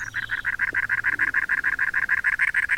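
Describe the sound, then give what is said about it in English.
A cactus wren, a large wren the size of a red-winged blackbird, perched atop a cactus in the American Southwest, sings its gravelly song: a steady, rapid string of harsh, raspy chattering notes, about six per second, loud and unbroken, with no voices. “Our singer is the size of a red-winged blackbird, but it's a wren, a very large one, called the cactus wren.”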